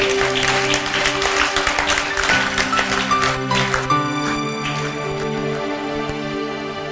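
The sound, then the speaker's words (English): An audience claps in a dense, steady burst over sustained organ-like chords. The clapping thins out after a few seconds, leaving the held tones ringing on. “I thought you were clapping to Jesus.”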